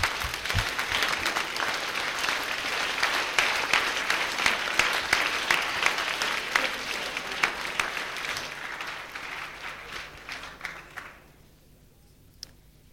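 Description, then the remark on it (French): An audience applauds the winner of the eighth prize in a prize draw, an evening with dinner in Fribourg, steadily for about eleven seconds, a dense wash of clapping hands that fades out near the end, leaving near silence with a single faint clap. “Vous pouvez l'applaudir.”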